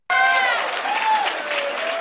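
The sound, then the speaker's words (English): An audience bursts into loud, sustained applause after Mr. Walsh defines a woman as an adult human female, a dense wash of clapping with a few high cheering voices rising above it, continuing steadily for the whole two seconds. “They're clapping for that.”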